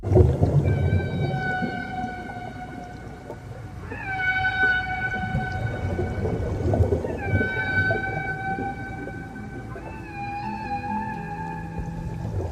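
Four long, tonal whale calls, each rising briefly and then holding a steady, harmonic moan, spaced a few seconds apart over a constant low underwater rumble. No one speaks.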